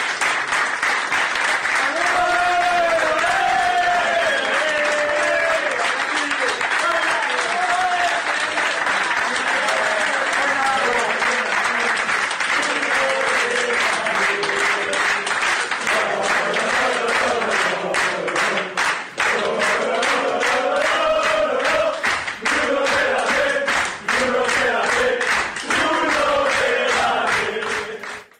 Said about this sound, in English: Later, after his interview, when he returned to the dressing room, he was greeted by his teammates, giving him an ovation and cheering his name. This is what that sounded like.